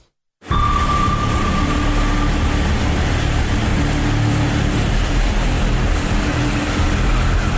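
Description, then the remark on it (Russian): The engine of a 34-foot (almost 11 m) American-built Sea Ark patrol boat of a Ukrainian military river flotilla roars steadily and loudly, a dense rumbling drone with a faint whine on top that holds without letup for several seconds. “Це американський катер проєкту Sea Ark, 34 фута, це майже 11 метрів.”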